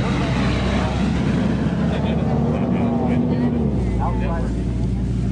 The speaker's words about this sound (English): How many times do trucks go by? Oh, so often. Yeah. It's hard to hear each other talk when all we can hear is the truck, so we have to wait for a couple minutes for it to pass.